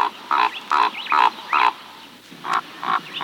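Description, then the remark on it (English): A raven croaks in a quick series of hoarse, throaty calls, five in a row, a short pause, then two more, clear with no voices. “Ravens croak.”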